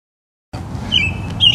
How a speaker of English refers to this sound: We're being serenaded still by this bird. We are. On this lovely Denver evening here.